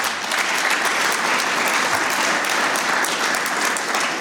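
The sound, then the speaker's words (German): Steady applause from an audience, in thanks for their contributions, volunteer network work and support, a dense wash of many hands clapping at an even, loud level for about four seconds with no talking over it. “Ich finde, es ist ein Applaus wert.”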